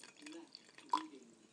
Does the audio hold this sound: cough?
no